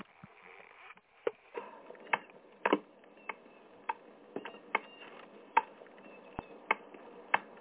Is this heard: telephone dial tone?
no